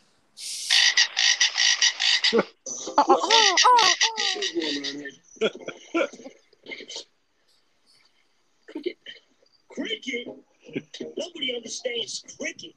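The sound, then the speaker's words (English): A loud, rapid train of cricket chirps sounds for about two seconds, then cuts out as voices talk, with brief pauses. “Cricket. Nobody understands cricket. You gotta know what a cricket is.”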